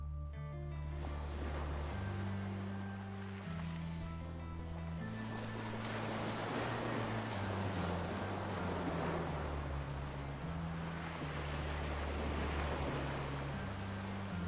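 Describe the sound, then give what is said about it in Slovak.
Sea surf rolls in with steady, broad washes that swell and recede every few seconds, set over a low, sustained musical drone that shifts pitch slowly. No voices. “Prišli až k moru.”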